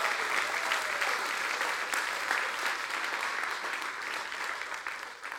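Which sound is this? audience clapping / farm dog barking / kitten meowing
audience clapping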